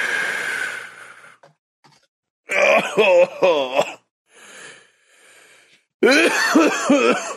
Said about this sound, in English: Let me get ready to join you in that coughing fit.